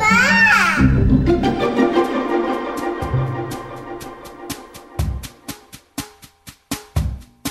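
A child's brief, high wailing cry opens, then gives way to sustained low tones and sharp clicking taps that grow louder and more spaced out toward the end.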